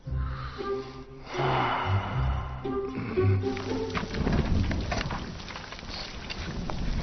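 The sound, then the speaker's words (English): Steady rain, falling while someone is painting in it, comes in partway through, a dense hissing patter that continues to the end, following a stretch of low tonal sound and heavy breathing. “Painting in the rain? Is that smart?”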